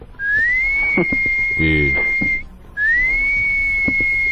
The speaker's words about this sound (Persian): چرا سوت میزنه؟